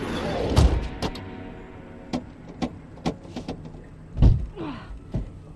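Car door locks clunk shut through central locking, followed by a scatter of sharp mechanical clicks and a couple of heavier thumps, irregularly spaced, with no talking.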